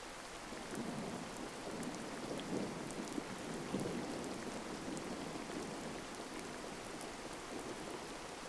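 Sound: rain with thunder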